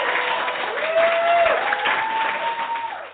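A crowd cheering and applause sound effect: a crowd applauds loudly and steadily, with cheering voices and a whoop or whistle rising above the dense clapping, then the ovation tapers off at the end.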